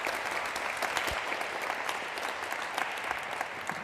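An audience applauds steadily, a dense, even wash of many hands clapping at a fairly loud level throughout, with no voices standing out.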